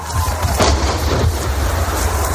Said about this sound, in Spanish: Han salido ilesos él y su equipo del ataque de un proyectil ruso en Ucrania. Escucha este momento. Escuchamos gritar a unos soldados quejarse. No sabemos si han sido alcanzados.